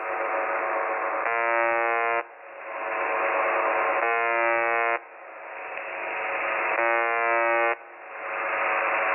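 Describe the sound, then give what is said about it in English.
A harsh, buzzy alarm tone, looping 24 hours a day and picked up by a microphone that is always on, sounds three times at steady intervals, each burst about a second long, over a constant rushing hiss, all thin and tinny. “It's almost like an alarm of some type.”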